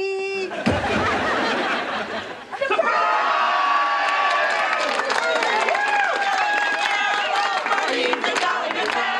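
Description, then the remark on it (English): A group of people bursts into a loud, sudden shout of "Surprise!" at a surprise party as the guest of honor comes in the door, then keeps up a lively jumble of overlapping voices, chatter and laughter. “when Dan comes in, you know, just yell, surprise”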